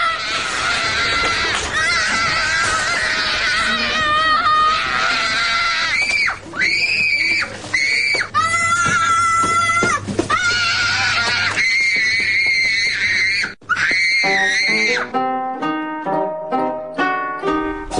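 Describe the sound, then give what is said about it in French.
Shrill, sustained wailing screams like a child's tantrum in a supermarket, loud, rising and falling in long cries before breaking into short, rapid sobbing bursts; it may be a voice imitating the sound. “Caprice ? Dans un supermarché.”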